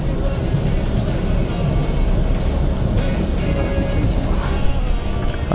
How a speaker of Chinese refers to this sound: 应该是火车呼啸着。 对，大家现在可以听到了火车的声音，过去的。